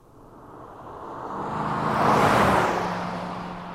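A fast car approaches and roars past, its engine noise swelling to a peak and then dropping in pitch as it speeds away. No one speaks.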